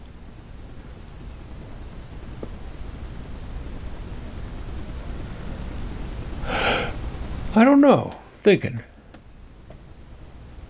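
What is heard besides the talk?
person yawning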